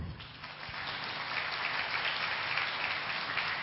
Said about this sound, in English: Can we welcome him with two hand clap?